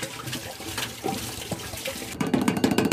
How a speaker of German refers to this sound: Also in unsere Toilettenkassette kommt jetzt da frisches Wasser rein.